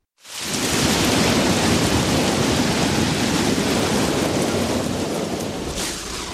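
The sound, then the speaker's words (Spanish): A heavy thunderstorm downpour starts abruptly and roars on steadily and loudly, a dense wash of rain with a deep rumbling undertone, and no voices. “Todo comenzó con varias tormentas que se produjeron después de un viernes caluroso.”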